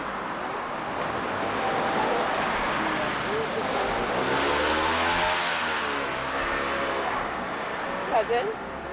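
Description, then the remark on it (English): A steady, loud roar of street traffic with cars passing by, a rising and falling engine sweep in the middle, and indistinct voices murmuring underneath. “It's too dangerous. Too many cars.”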